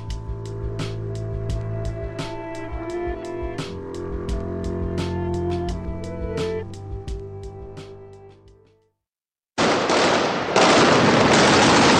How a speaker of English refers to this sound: The sound of gunfire there in Iraq between the Iraqi military and al-Qaeda militants in Anbar province on Sunday.